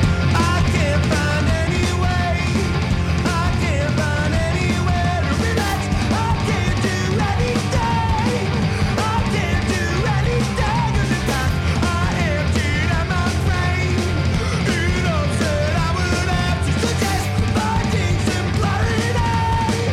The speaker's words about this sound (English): On a superb song such as …, he nearly goes hoarse, yelling about finding his own voice